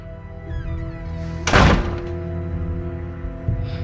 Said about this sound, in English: He stands slowly, scowling at her. He knocks over his chair, turns and steps out the door.